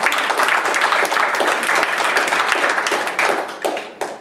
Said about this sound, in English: Give Joseph a hand of applause.